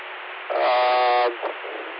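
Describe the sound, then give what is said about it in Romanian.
A steady, buzzy tone with stacked harmonics, the tone that opens a radio repeater, sounds for just under a second over hissy, band-limited radio static, followed by a brief blip before the static carries on alone. “Ai dreptate că tu ai 1, 2, 3 acolo, ai tona, tonul de, care deschide.”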